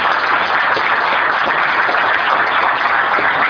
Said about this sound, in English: How about a round of applause for all of you?